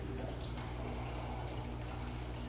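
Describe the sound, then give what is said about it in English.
A steady stream of water, used to remember baptism, pours into a basin, a continuous soft splashing with a low hum underneath, fairly quiet and unbroken throughout. “This water, where you remember your baptism, is not holy and is only meaningful if you allow it to be.”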